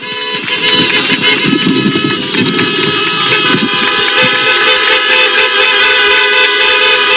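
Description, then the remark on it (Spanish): A loud, continuous din of hundreds of car horns blaring together, overlapping steadily for several seconds over a low rumble of engines and traffic, with no one speaking, as families and teachers in their cars protest the CELA education law on the Samira esplanade in Vigo, Spain. “vamos a escuchar un momentito las bocinas y el ruido que había allí”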